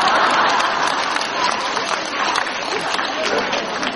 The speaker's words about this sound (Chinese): 怎么不鼓掌啊？讲完了，就是说看不见的东西不一定不存在啊，对不对啊？刚刚还说你们很开悟的，鼓掌都不知道，